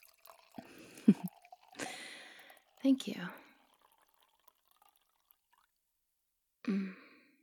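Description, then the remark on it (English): Wine splashes softly into a glass in a short pour with a rising, filling tone, followed after a pause by a brief whispered voice. “I love relaxing with a handsome man at my side and a good wine in my glass. Perhaps you could pour us some?”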